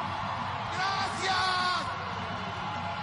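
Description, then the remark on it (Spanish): A dense crowd at Arena México, Mexico, roars continuously at a wrestling mask match, with loud yelling and whooping voices swelling in the middle before settling back into a steady, noisy cheer, like spectators in a packed arena. “Y claro, los que gritan y vitorean son los que fueron nada más ese día, yo creo.”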